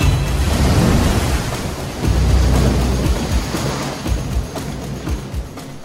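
A sailing boat pounds upwind through rough waves in the 1989 around-the-world race, in a scene from the documentary Maiden: a loud, steady roar of wind and spray broken by heavy low thuds and surges as the hull slams down. No voices.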